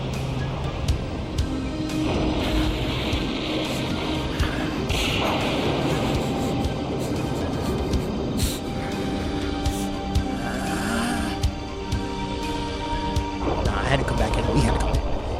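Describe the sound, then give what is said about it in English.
Loud rolling thunder rumbles continuously, broken by sharp crackling snaps and whip-like cracks at irregular moments, with voices faintly mixed into the dense noise. “hearing the thunders and the crackles and everything else in between is crazy to me.”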